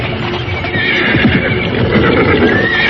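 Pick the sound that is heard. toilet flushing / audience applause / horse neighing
horse neighing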